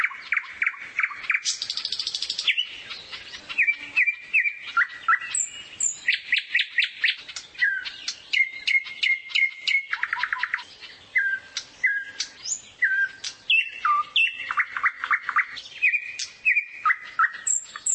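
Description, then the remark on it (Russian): A nightingale sings loud, pouring out a continuous run of varied phrases: rapid repeated notes, trills and sharp whistles in quick succession, with no voices. “Некоторые птицы имеют свой диалект, можно сказать. Например, соловей литовский и около Петербурга отличается.”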